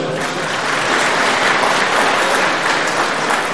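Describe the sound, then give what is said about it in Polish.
Loud, sustained audience applause from a large crowd at a conference, welcoming representatives from Tajikistan, a dense wash of clapping that holds steady at full volume throughout with no voices standing out. “Ogromne klaski, oklaski.”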